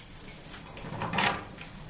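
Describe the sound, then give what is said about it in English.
Keys jangle and a lock clicks as a heavy security door, one of at least four passed through, is unlocked and slides open, a short burst of metallic clatter and scraping, with no voices. “There's at least four doors we're going through.”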